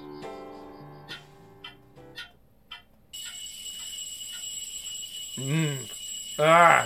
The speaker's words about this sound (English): Click. I fish around with my hand and shut the alarm up.